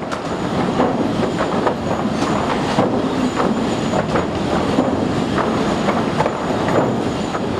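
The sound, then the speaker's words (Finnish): The Vilppula sawmill production line running: a loud, steady roar of industrial machinery, loud enough that conversation is hardly possible and hearing protection must be worn, with repeated clanks and thuds rising above the din and a faint high whine throughout, with no voices. “Tuolla itse sahalinjastolla on sen verran kova meteli, että keskusteleminen ei siellä oikein onnistu ja kuulosuojaimia on käytettävä.”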